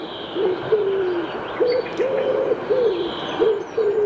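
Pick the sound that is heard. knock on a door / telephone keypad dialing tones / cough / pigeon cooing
pigeon cooing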